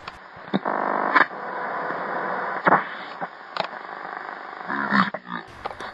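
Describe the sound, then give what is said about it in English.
Continuous hissing radio static with brief crackling bursts and warbling whistles as the tuning dial of a radio in a diner sweeps between stations, steady, with no voices coming through. “I can hear Scarlett turning the dial on her radio. Dottie eagerly awaits a human voice. Nothing but static.”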